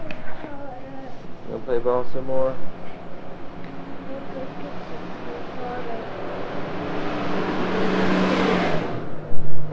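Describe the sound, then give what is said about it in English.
Buses roar past, the engine rumble swelling steadily to a loud peak near the end before fading. Brief voices are heard early on beneath the traffic noise. “Those buses are so loud.”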